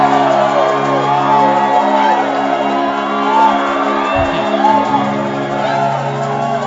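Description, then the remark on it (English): A church crowd of many voices shouts and calls out praise to God together in a loud, continuous roar, with whoops and yells rising over a steady low hum throughout. “Now lift your voice louder and give God praise.”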